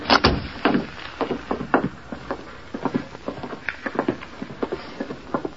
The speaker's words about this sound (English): Close that door behind you